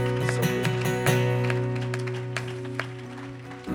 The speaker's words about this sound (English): You hear how they clap?